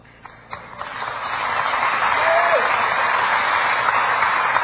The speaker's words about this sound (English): You know, that applause was not quite as strong as the others.